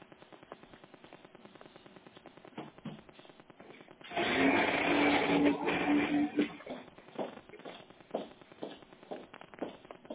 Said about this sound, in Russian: Моя вода набирается в кофемашину.